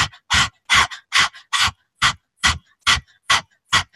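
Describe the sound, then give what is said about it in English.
A person pants like a dog with the tongue out as a breath-work exercise: about nine quick, breathy huffs in a steady rhythm, fairly loud, with short silences between and no talking. “Okay, I know it might sound a little crazy, but stick your tongue out and start panting like a dog.”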